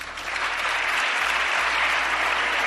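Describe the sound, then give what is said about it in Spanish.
Steady, dense applause from a large crowd in the Congress (parliament) as a law is approved, many hands clapping at once in an unbroken roar of claps that holds the same loud level throughout, with no voices; the applause lasted about four minutes. “No ha sido impedimento, sin embargo, para que hoy en el Congreso se haya registrado uno de los aplausos más largos que se recuerdan.”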